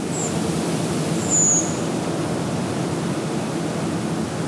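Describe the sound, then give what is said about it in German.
Two thin, high-pitched 'tseep' calls of a redwing, a short one at the start and a longer, clearer one a second later, heard over a steady, loud background hiss. “Ja, und mit dem Ruf, dem Gesang, wie auch immer, der Rotdrossel, bedanken wir euch bei euch.”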